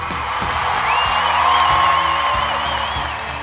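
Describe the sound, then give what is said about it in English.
An applause-button sound effect: a burst of crowd applause and cheering for the nation of Portugal, dense steady clapping with rising whoops and shouts riding over it, loud and sustained for a few seconds. “Hey, Jay, can I get you to hit that applause button, my friend?”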